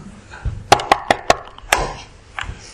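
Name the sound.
knocking on a door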